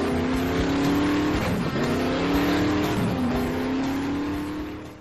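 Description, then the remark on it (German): The powerful engine of a fast, big car roars loudly and continuously, its pitch climbing and dropping through a couple of gear shifts as it races by, with no voices present. “Ja, nimm dir die Zeit, nimm dir die Kraft, die du brauchst, um mit deinem schnellen, dicken Auto von A nach B zu fahren.”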